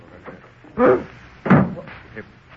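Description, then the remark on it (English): A door is opened, with two solid wooden clunks about half a second apart, set against a faint murmur of indistinct voices. “Pardon me while I answer the door.”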